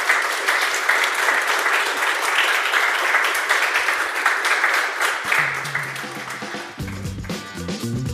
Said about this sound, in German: Großen Applaus.